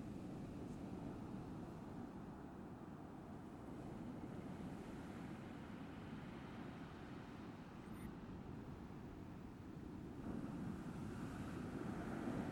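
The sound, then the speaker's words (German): Steady sea waves wash onto the shore in a continuous, rumbling roar, with a soft surge toward the end and a breezy hiss over the water; no voices. “Und wer hat es nicht schon erlebt, allein vor einem Meer zu stehen und hier auf einen anderen Rhythmus zu treffen? Auf den Rhythmus der Wellen.”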